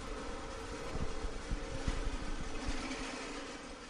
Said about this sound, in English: It's late afternoon, and a drill press sends echoes through the design and technology classroom at St. Patrick's, where the engineering team works on their robot.